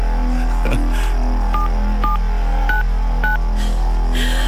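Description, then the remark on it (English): A string of four or five short touch-tone dialing beeps as a phone is dialed to call someone, at a steady, even pace, each a brief two-note chirp, sounding over a constant low electrical hum with no one talking. “Let's phone up somebody else now.”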